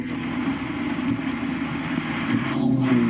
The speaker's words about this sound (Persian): یه ماشین میبینم.